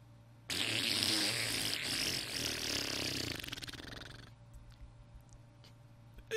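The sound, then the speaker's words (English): A loud mouth-made fart noise, made on a dare to be as loud as possible: one long buzzy raspberry held for about four seconds that sputters into fluttering pulses before stopping abruptly, with no talking. “I dare you to make a fart noise as loud as you can.”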